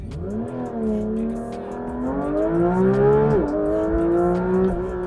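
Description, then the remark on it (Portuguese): A Porsche 911 GT3 RS's naturally aspirated 4.0-litre flat-six engine, 525 hp, accelerates hard from a standstill to 100 km/h, its loud roar climbing in pitch through quick PDK gear shifts, continuous for several seconds without any talking. “A gente tem um motor de 6 cilindros contrapostos horizontalmente, que gera 525 cavalos e 47,4 kg de torque.”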